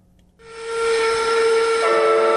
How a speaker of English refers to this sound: Head machinist Jeff Randrup blows first one and then both of OBI Seafood's steam whistles. He's up on a man lift, like a forklift, but for lifting people, leaning into a huge cloud of steam in his visor and welding gloves.